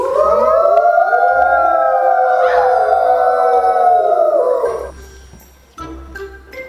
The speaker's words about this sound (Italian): Ma c'è il lupo nel libro magico? Sì. Cosa fa il lupo ulala alla luna piena?